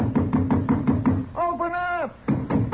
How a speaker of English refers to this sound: You suppose somebody lives in this forsaken place? Well, we'll find out. Go ahead and knock. Anybody in there?